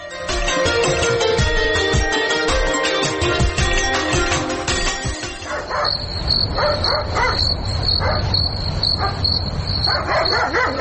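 A dog barks repeatedly in short bursts during the second half, over a steady high insect-like whine. The first half is a dense, busy wash of sound.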